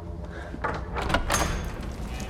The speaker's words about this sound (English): She steps away from the doors looking around, but when all goes silent, she goes back to the doors and opens them.